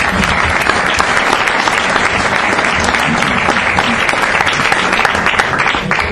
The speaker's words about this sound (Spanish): Queremos un aplauso para ellos, ya que no están aquí.